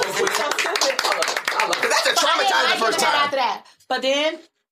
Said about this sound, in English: Clap it up.